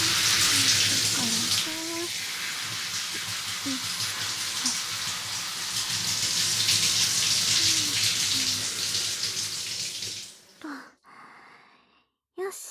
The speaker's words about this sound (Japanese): じゃあ、シャワーでヘッドスパのオイル流しちゃうね。シャワー行くよ。ヘッドスパのオイルは、しっかり洗わないと。